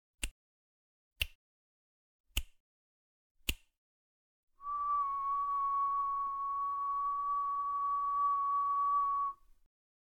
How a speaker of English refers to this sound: If I click my fingers and delay pan to the right by 3 milliseconds, the sound appears to come from a different direction than if I pan the sound of my whistling using the same 3 millisecond delay. Just have a listen to that.